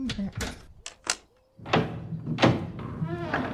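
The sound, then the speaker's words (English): A few sharp metallic clicks and clunks of a lock being worked, a brief pause, then a door swinging open with a scraping, rustling rush of sound. “Suki, the door! Are you just going to stand there”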